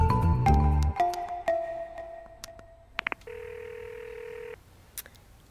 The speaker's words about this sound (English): Come on, pick up that phone. Still dialing that number, I'm sorry. If she didn't pick up yesterday or this morning, she isn't going to now.